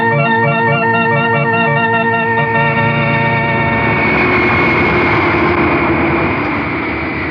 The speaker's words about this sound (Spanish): Minutos más tarde, el gigantesco jet internacional despega de una de las pistas del aeropuerto de Orly. En pocos segundos, gana gran altura enfilando para hacia el cielo oscuro de la noche.